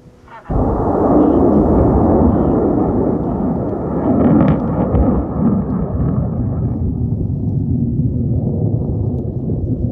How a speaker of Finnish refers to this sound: Lähtölaskenta on käynnissä. Yön pimeydessä näkyy vain välähdyksiä ja kuuluu kumisevaa mölinää, kun 13-metrisen raketin moottori pauhaa.